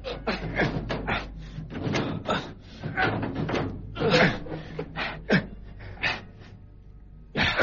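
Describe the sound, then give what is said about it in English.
A heavy metal safety deposit drawer is pulled open by hand in a series of scraping, rattling pulls and clunks, with uneven bursts over a low steady hum and a final loud jolt. “Now give me a hand with the safety deposit drawer. Right. Right. Pull.”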